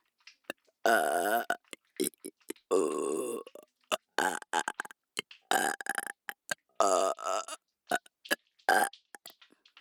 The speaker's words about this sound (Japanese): もういいよ、ゲップで果てろ。ゼロ距離ゲップで。